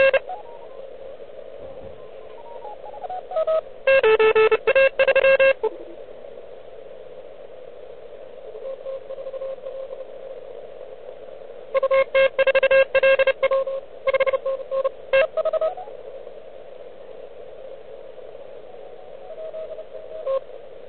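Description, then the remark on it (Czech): A radio receiver hisses steadily under a droning tone, with heavy interference. Two stretches of stuttering beeps and chirps burst in, one near the start and a longer one later. No one speaks. “Bohužel to rušení je tady značný, ale to nevadí.”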